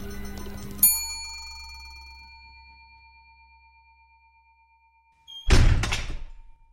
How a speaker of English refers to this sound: The doors slammed shut